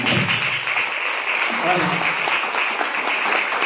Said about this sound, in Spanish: Casi que Jesús se merece un aplauso por todo. No se lo damos.